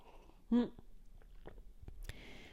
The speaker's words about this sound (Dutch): Even een slokje thee, moment.